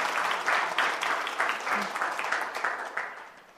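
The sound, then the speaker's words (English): An audience claps together in a dense, steady patter of many hands, moderately loud, tapering off gradually toward the end. “I heard like a single clap over here.”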